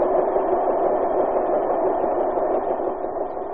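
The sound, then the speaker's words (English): A dense, steady mechanical roar of giant printing presses running at tremendous speed, printing the American Weekly magazine in full color at 15,000 copies an hour. The roar is loud and unbroken, with a muffled, band-limited tone and no voices. “The roar of the presses. Every week these giant presses roll and keep rolling at tremendous speed.”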